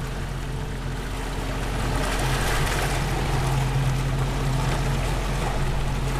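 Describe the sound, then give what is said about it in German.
A motorboat engine drones steadily throughout, with a low, constant hum and a slight swell in loudness midway, accompanied by the wash of water against the hull. “Wenn es ein neues Boot kommt, wo man den Boot erkennt oder den Motor erkennt, dann kommen viele ins Wasser, um näher zu kommen, um uns anzusehen.”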